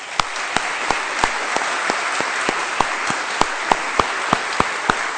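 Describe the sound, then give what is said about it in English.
A crowd applauds graduates steadily, with a dense wash of many hands clapping and a few sharper, louder individual claps standing out at an irregular rhythm throughout. “So if you can join me and just give a big round of applause to all our graduates.”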